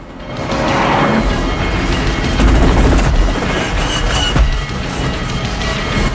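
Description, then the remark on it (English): Gunshots fired at a helicopter, which wavers in the air, ring out over a dense, loud roar of noise, with a few sharp cracks standing out and a heavy low rumble swelling midway. No one speaks. “A cigarette clutched between his lips, Ryder fires more shots at the chopper, which wavers in the air.”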